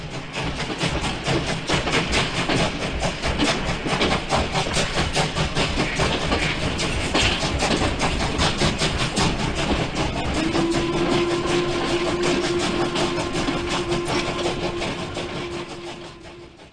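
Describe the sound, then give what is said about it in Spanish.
An old steam train runs steadily and loudly with rapid, rhythmic chugging and clattering wheels; partway through a sustained low whistle tone joins in, then the noise eases slightly near the end. “Algo verificable en la prensa de la época y que de paso ayuda a desmentir cualquier otra teoría cercana, como la versión que dice que el nombre es por el sonido de los antiguos trenes a vapor.”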